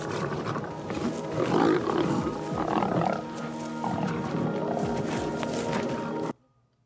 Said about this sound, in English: Okay, so now you can say that you've seen a lion attack.